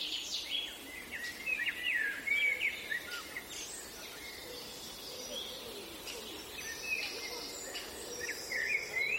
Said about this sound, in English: Ambience, Sunday, May 30th, 2021, 7:55 a.m. A small path between railroad tracks in the back of a residential area in Essen. Ambient sound of dead wood with a woodpecker's hole. Overgrown woods. Recording.